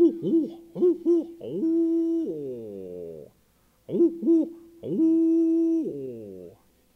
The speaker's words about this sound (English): Down in the river swamp, you might hear those great big owls, maybe have a wingspan of about this much. Tall as a nail keg, the big hoot owl.